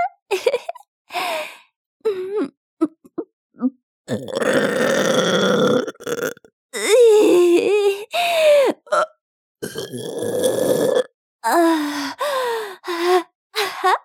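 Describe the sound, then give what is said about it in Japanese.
Several loud, drawn-out burps, each lasting a second or two, separated by short gasps and breathy sounds, after drinking too much urine. No one speaks. “おしっこ飲みすぎてゲップこいちゃった。”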